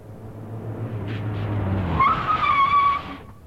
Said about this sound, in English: They were terribly frightened when they saw the car coming at them.